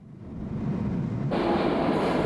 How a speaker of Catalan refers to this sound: Escolteu un anunci a l'andana del metro.